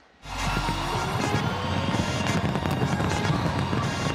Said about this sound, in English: Auckland, New Zealand was the first major city to ring in the new year with a fireworks display, a full 18 hours before it strikes midnight on the U.S. East Coast.